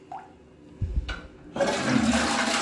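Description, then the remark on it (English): A toilet flushes: a brief clunk and rattle of the handle, then a loud, steady rush of water filling the bowl and swirling down, with no voices. “That's supposed to symbolize old Hollywood being flushed down the drain to make way for literally just Lord Math.”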